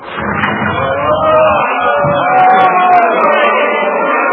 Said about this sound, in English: What are they shouting, Cornelius? For the release of Bar-Abba.